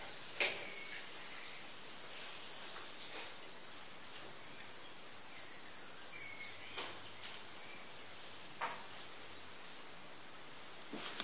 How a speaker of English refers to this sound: commented when we were praying on that lovely bird song which can be heard outside. I put it to you, that when God hears you pray in Christ, it's a more beautiful sound to him than those birds are to even us tonight.